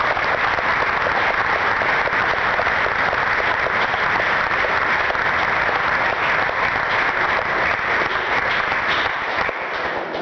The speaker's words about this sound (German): Und ich glaube, das wäre auch ein Applaus wert